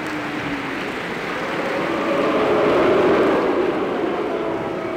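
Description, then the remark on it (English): A crowd boos at about 12 people who have just walked out, a long, sustained roar of low, droning voices that swells in the middle and then eases slightly, with no single speaker standing out. “It's the crowd booing about 12 people who have just walked out.”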